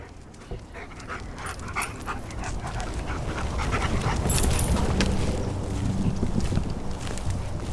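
Two search dogs pant heavily and shuffle around during a search of Lake Fisher in Orlando, Florida for a missing woman's body, with faint whimpers over a steady low rumble like an engine or boat in the background.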